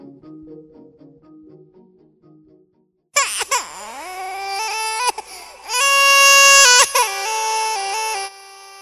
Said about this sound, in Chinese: 对不起，我已经不知道这是第几次孩子的哭声吵醒了睡梦中的你，我真的好无助。